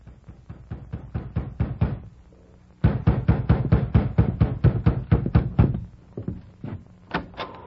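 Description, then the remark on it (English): Firm, rapid knocking on a wooden door of a doctor's office at about midnight on a windy, cold night, loud, in two long volleys separated by a short pause, followed by a few scattered knocks. No voices. “It must have been about midnight when I heard a knock at the door.”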